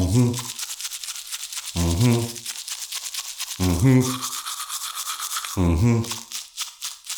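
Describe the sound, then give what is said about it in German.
Steady toothbrush scrubbing with fast back-and-forth bristle strokes running throughout, broken by four short bursts of a voice singing a German three-minute tooth-brushing song over the brushing. “Morgens, abends, dies aufräumen, bringt die Zahnbürste zum Schäumen.”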